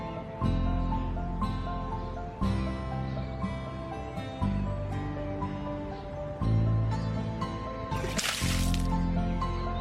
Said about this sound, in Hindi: तुम्हें क्या हुआ है कि इतना पानी बहा रहे हो? बड़ी मेहनत करके मैं नहर से लाया हूँ, टोटे खोल के थोड़ी लाया हूँ।